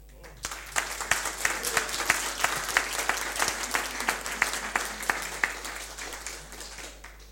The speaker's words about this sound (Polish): Możecie to, jak nie chcecie, to nie, wyrazić jako Kościół oklaskami?